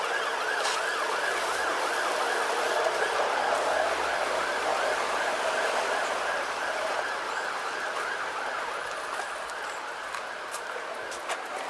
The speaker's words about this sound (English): Ooh, an ambulance. That's probably going back up the hill to the hospital.